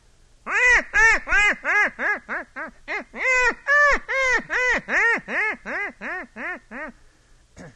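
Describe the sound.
A man imitates a duck, as done for duck hunting, with a quick, steady run of about eighteen nasal quacks, loud, each a short rising-and-falling honk, ending in a brief pause.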